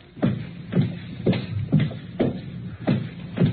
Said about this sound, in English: Footsteps.